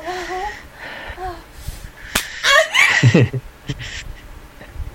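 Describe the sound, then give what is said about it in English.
A single sharp hand slap cracks out loud midway through, followed by breathy gasps and strained vocal sounds, with softer murmured vocalizing before it. “Slap it for me again.”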